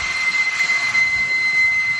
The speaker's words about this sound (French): Le bourdonnement constant des ventilateurs qui refroidissent les ordinateurs de ces centres de données rend fou les Américains, titre le magazine The Week.